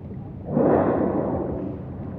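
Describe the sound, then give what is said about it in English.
A whale exhales through its blowhole, sending up a plume about 10 feet high: a single loud, breathy whoosh that bursts in suddenly and holds as a broad, rushing hiss, trailing off slowly with no voices present. “And the blowing of the whale, when it comes, is an ancient sound.”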